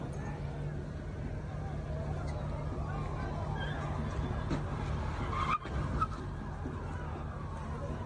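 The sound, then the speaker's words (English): At night during a protest, a car engine roars steadily while tires squeal and skid as the car spins in sweeping arcs, set against a dense background of crowd noise and voices. “Now he's revolving because he doesn't want to get caught by the protesters.”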